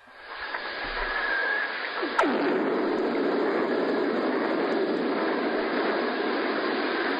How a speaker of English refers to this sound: I have no idea what blew the hell out of something. That's what lightning sounds like underwater.